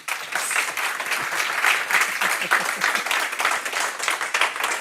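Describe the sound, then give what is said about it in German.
An audience at a live recording at Gastro Baselland in Liestal, Switzerland, applauds warmly to welcome the day's guest, a steady wash of many hands clapping at a fairly loud, even level for the whole stretch, with no voices on top. “Begrüßen wir doch mit einem herzlichen Applaus unseren heutigen Gast”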